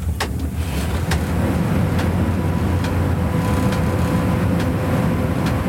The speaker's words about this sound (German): Tempo 120 ist auf vielen Abschnitten erlaubt, aber da schüttelt einen die Lok manchmal ganz schön durch.